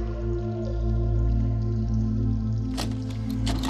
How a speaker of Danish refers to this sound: Strømmen gik, og hvad fanden er der sket? Hvorfor fosser der vand ud?